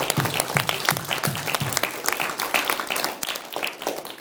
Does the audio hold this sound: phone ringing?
no